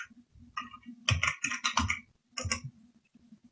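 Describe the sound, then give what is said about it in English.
A short burst of computer keyboard typing: the Windows key and the word JAWS typed in several crisp key clicks in quick succession, ending with a heavier press of the Enter key, with no one speaking. “Now that JAWS is closed, I'm going to reopen JAWS by pressing the Windows key and typing JAWS, then pressing Enter.”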